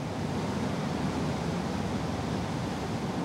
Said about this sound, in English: So it really fits into the spirit of New York to have a man-made waterfall in its midst.